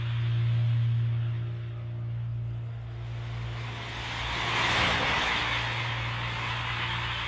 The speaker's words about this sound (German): Da hat es manchmal viel Verkehr.